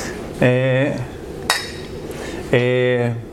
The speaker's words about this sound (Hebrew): שתי מים לפני. קחי שוק מים. אוקיי, הנה נעשה לחיים.